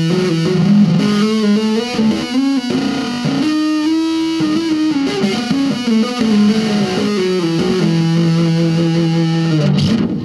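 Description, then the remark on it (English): Heavily fuzzed electric guitar, with the crush control turned down to 12, plays a smooth, unbroken run of hammered-on notes without picking, each sustaining into the next as the pitch steps up and down, loud and buzzing with no talking. “That's without picking, I'm hammering.”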